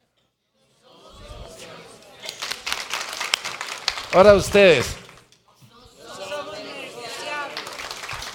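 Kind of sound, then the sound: crowd, audience applauding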